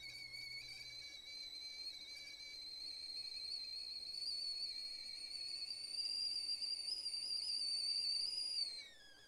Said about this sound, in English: I just put the kettle on for a pot of chamomile.